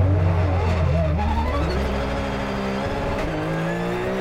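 Car tires screech loudly as an engine revs and the car skids to the side, then accelerates off into the desert, a continuous roar with rising and falling pitch lasting several seconds, no voices.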